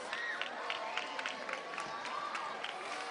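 An audience applauds after a reading against gender violence, a dense crackle of many hands clapping that holds at an even level throughout, with faint crowd voices and a brief whistle mixed in.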